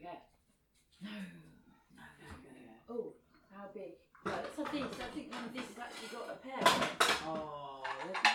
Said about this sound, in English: Shall I dish our pears up? Oh yeah. Pears, dish our pears up. Oh yeah, go for the dishes.